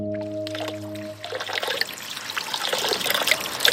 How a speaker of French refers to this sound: On quitte maintenant la carrière pour faire un tour dans le village de Volvic à 10 minutes en voiture. Au milieu du bourg, on trouve une fontaine, la fontaine Saint-Prié, ou Grande Fontaine.